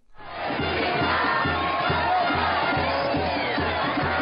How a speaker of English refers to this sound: The sound of joyful crowds after Argentina defeated the Netherlands in the World Cup semifinals.